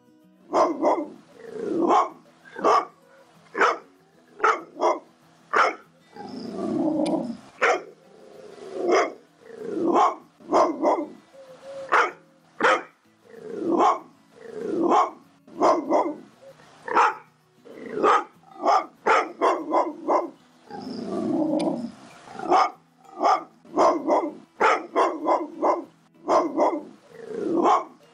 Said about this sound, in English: Pitbull dog barking number 2.